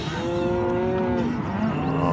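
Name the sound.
cattle mooing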